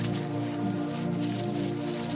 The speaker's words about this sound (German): Dann hörst du etwas anderes, ein tieferes, rhythmisches Rascheln.